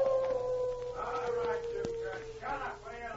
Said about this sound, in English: Now, in total darkness, they crept forward. The wolf dog howled again.